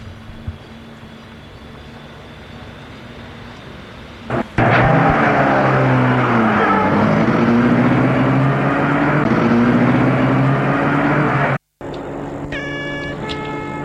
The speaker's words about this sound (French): Il regarde Paris le matin. La voiture traverse les quais. Les quais qu'il n'a jamais vus.